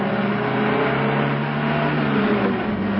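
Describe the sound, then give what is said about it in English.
A car engine drones steadily, a loud continuous motor hum with a slight push in pitch as the car closes in on a vehicle about 60 yards ahead, with two cars in between, no voices present. “If we stick behind this second car, we ought to be able to get within 10 or 15 yards of them without them spotting us.”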